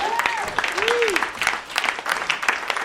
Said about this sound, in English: Have a round of applause for Sudbury Airport.